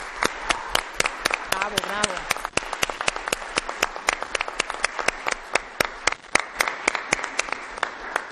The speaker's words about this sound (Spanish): Así que desde ahora yo les pido un aplauso para las personas que están por concluir su cargo.